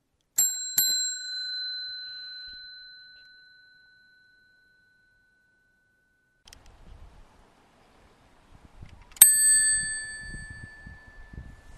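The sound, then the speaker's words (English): A bicycle bell dings twice in quick succession and its bright tone rings out slowly, then after a pause of quiet rumbling it chimes once more with a long fading ring. “It wasn't too loud, but of course that's the Shane's bicycle bell”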